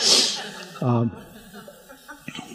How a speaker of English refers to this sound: Thank you for being patient with my sniffling. Part of this is allergies, by the way.